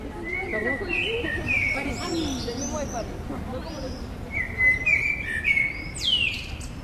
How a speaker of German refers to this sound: Nur die Amsel bleibt, auch wenn alle gegangen sind, sie singt noch lange.